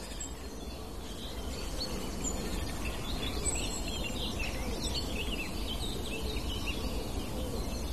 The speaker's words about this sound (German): Auch vorkommt die Meisen schimpfen. Kohlmeisen hier vor mir.